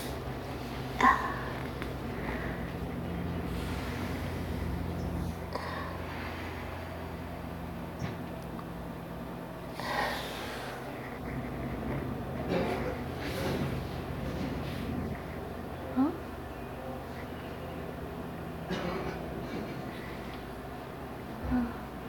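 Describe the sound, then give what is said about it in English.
Faint coughing from someone outdoors, a few separate bursts spread out over a quiet background with a steady low hum. “Someone's got a bit of a cough outside.”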